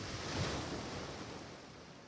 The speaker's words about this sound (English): You can hear the waves crashing themselves to the shore. Limitless and everlasting along the coral coast.